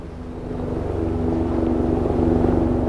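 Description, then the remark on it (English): A CHP helicopter flies in to assist the Mono County Search and Rescue Team in rescuing an injured hiker, its engine drone swelling steadily louder, a continuous low mechanical hum with a pulsing rotor texture and a steady tonal whine, no voices. “A CHP helicopter flies in to assist, and a team of volunteers heads out on foot.”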